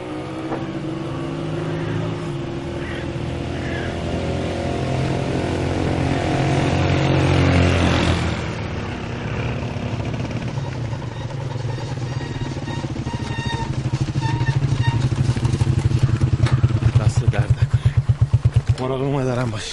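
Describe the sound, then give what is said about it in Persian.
A motorcycle engine runs steadily, its low drone swelling midway and turning into a rapid, throbbing putter near the end, with voices faintly present beneath it. “خب لااقل پول بنزین موتور رو میدادی.”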